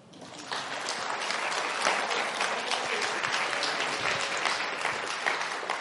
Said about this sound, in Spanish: Muchas gracias. Dele un aplauso.